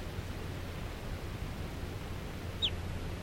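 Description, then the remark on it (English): A single short, high call of a wild crossbill chirps once near the end, sharp and downward-sliding, over a steady wash of hiss and low rumble with no voices. Wild crossbills are flying around in lodgepole pine. “According to crossbills all over the place here, flying around.”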